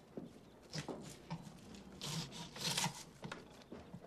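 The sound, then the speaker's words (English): Paper being ripped and sliced with a pocket knife by a student in class, a series of irregular rasping tears and scrapes in short bursts, with a louder stretch of ripping near the middle. “Kate rips paper with her knife.”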